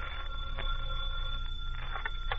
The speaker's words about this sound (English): The phone rings.